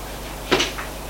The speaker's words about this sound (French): Le domestique frappe à une porte. Entrez ! Il ouvre la porte.